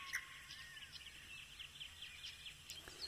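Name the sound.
birds chirping and singing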